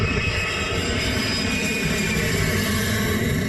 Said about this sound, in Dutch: Op de aanhanger staat een geluidsinstallatie waarop echt keihard het geluid te horen is van het Amerikaanse gevechtsvliegtuig.